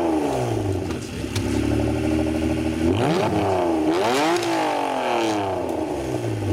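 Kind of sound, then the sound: vehicle, sports car engine revving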